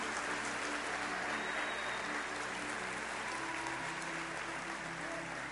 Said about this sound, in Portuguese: Pode aplaudir com vontade, meu irmão.